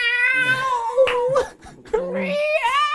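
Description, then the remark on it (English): A person imitates a hungry cat's yowl: two long, wavering, high-pitched cries with sliding pitch, fairly loud, separated by a brief pause. “It's a very haunting tune about a cat kitty. That wants some food.”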